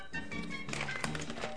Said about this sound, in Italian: Si sente la carta, ma è nero, è tutto nero. Come mai? È l'autocertificazione per uscire? Sì.